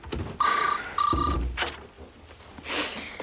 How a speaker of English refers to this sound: Oh, that's all right. You answer the phone. I don't mind waiting.